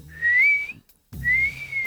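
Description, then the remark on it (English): Two sustained outward-blown whistled notes, attempted by a learner, each rising slightly and holding steady, separated by a short pause. The whistling is clear, with a faint low hum underneath and no talking. “The outsy and insy whistles. Outsy.”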